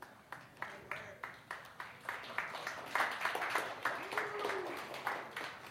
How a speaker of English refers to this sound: I got 8 hand claps that time. One more. I've gone up. 9, 10, 11, 12, 13, 14.